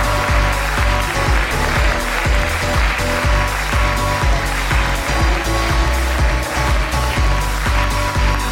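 Steady, dense applause from an audience for a woman coming up to join the show, a loud continuous wash of clapping with no pauses and no voices standing out.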